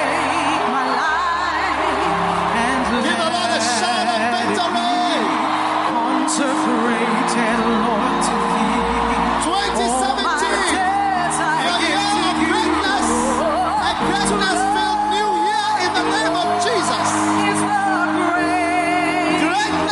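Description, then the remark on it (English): An audience shouting and clapping together to give the Lord a shout and a clap. A loud, dense wash of many voices with whoops and cheers over scattered hand claps, sustained for the whole stretch without any single voice standing out. “Give the Lord a shout and a clap for him.”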